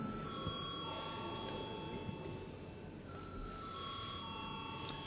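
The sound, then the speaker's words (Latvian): A parliament chamber's electric bell rings without pause for several seconds before a vote on a bill, a bright, sustained tone with a brief shift in pitch partway through, over low background murmur. “Lūdzu, zvanu.”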